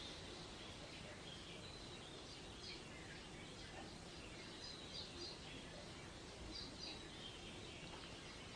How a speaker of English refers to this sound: Just enjoy listening to the birds, the sweet little birds. You can feed these birds out of your hand sometimes.